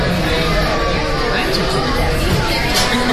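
Dense restaurant crowd chatter fills the space while it pours with rain outside, a steady hubbub of many overlapping voices with no single speaker standing out, loud and continuous throughout.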